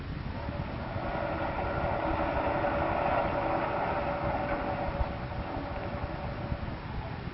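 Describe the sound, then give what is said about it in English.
A submarine's engine labors at full power astern, trying to free its fouled propeller, a steady heavy rumble with a churning mechanical roar that holds loud and constant throughout, with no voices. “In that case, we may be able to reverse and free it. Full speed astern.”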